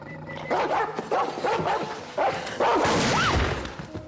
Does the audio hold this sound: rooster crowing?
no